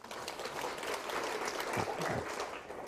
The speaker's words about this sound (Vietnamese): Tặng cho bạn này một tràng pháo tay khích lệ.